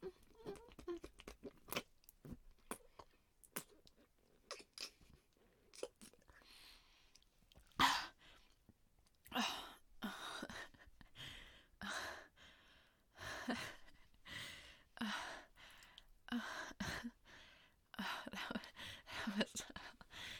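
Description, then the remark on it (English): Wet swallowing and gulping noises come in irregular bursts over twenty seconds, mixed with crunchy mouth sounds and quick breaths. The sounds grow denser and louder toward the middle and end. “No, I promise you tasted good, and I swallowed it all.”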